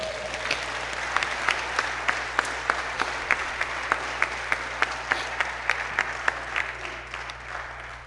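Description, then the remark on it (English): An audience claps together in a steady rhythm, sharp regular beats over a continuous wash of scattered hand claps and crowd noise, fairly loud throughout. “Come on and clap.”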